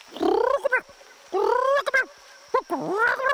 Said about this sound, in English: They heard me behind them like this. Parrot Chikatika chattering.